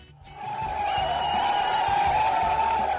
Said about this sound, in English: These are crowds of people who were cheering Indian commandos outside the Nariman House Jewish Cultural Center, home of the Chabad de Lubavitcher sect in Mumbai, celebrating what looked like, at that point, the end of the hostage crisis there.